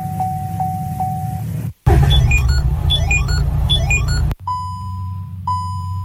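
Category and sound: signal or alarm, car low-fuel warning beep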